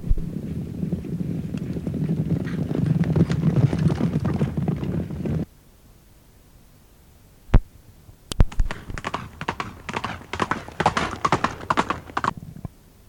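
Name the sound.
horses galloping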